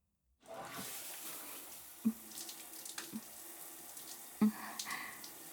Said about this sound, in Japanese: ほら、泡を流してあげるから